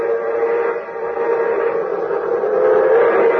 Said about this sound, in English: Here comes the champion of the railroad. Here comes the Hiawatha. And there goes the champion. There goes the Milwaukee Railroad's new great streamlined locomotive. An orange and silver bullet streaking across the country